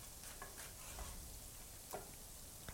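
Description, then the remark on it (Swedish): Garlic sizzles steadily in a pan over fairly high heat, a dense crackling hiss broken by a few scraping stirs of a utensil against the pan, moderately quiet, with no talking. “Rör du runt där? Ja, lite.”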